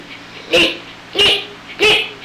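A dog barks three times in a steady rhythm, each bark loud and sharp, with brief quiet gaps between them and no talking.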